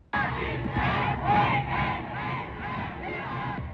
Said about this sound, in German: Begeisterungsströme, Fackelzüge durch deutsche Städte, großer Jubel. Am 30. Januar 1933 wird Adolf Hitler von Hindenburg zum Reichskanzler ernannt.